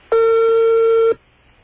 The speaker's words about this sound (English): See if I can get the operator. There's a phone ringing in Slovenia now.